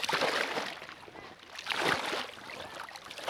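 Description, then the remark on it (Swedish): Continuous sloshing and swishing of cold sea water as someone wades out through it to just below chest height, with two stronger surges of splashing and no voices. “Och kallt tycker jag att det är i vattnet där jag nu tar mig ut här.”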